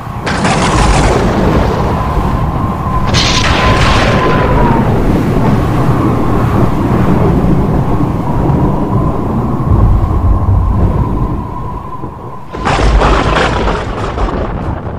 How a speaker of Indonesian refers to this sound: Mendung tersebut bukan hujan yang turun dari awan yang tebal itu, tetapi angin taufan yang dahsyat dan kencang disertai bunyi gemuruh.